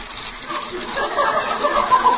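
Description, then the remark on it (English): Water squirts out of a gas stove in a steady, hissing gush that swells slightly louder over a couple of seconds, continuous with no pauses. “And the gas stove's squirting water.”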